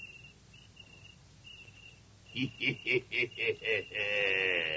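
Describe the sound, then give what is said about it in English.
Faint, high cricket chirps trill on and off, then a louder run of six evenly spaced chirping pulses ends in a sustained shrill trill, with no one talking. “I hope one isn't a cricket.”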